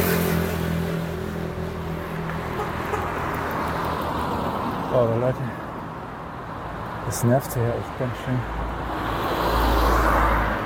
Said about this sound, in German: Diesen scheiß Autos.